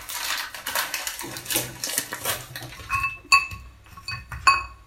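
Porcelain cups clink together as herbal tea is poured into three porcelain cups in a family's orange-walled apartment kitchen in Chișinău: a few bright ringing taps near the end, after a stretch of soft rustling and clattering noise. No one speaks.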